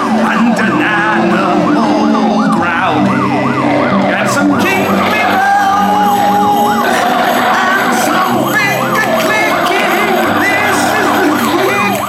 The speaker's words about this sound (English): Let's have some police sirens.